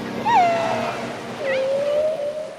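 Underwater calls of whales and dolphins, which orient by sound, talk to each other and hunt. Two long, smooth tonal whistles, one rising and wavering, the next gliding slowly upward, with faint higher chirps over a soft watery hiss. No talking.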